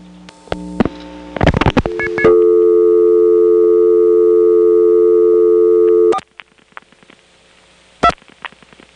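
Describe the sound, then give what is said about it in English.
A local neighborhood telephone call to the Marietta STEP exchange being routed over a direct trunk: a burst of mechanical switching clicks, then a steady humming line tone for about four seconds, followed by scattered relay clicks and one sharp click. No voices. “Here's a call to the Marietta STEP.”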